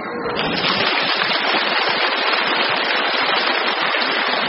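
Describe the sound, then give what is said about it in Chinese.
A large audience bursts into sustained applause, a dense, steady wash of clapping that holds at an even, loud level for several seconds with no voices breaking through. “这是第一次鼓掌，接下来跟你们说第二次鼓掌。”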